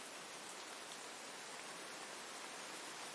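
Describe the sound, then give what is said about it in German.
Light rain patters steadily and evenly on a magic carpet above the jungle, a soft continuous hiss of countless small drops with no voices or other sounds. “der Regen prasselt leicht auf den Zauberteppich, der durch seine magischen Eigenschaften genauso gut funktioniert wie ein Regenschirm.”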